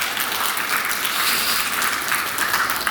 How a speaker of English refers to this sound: So God has been very kind to us. I think that's a great moment, and I think we should clap.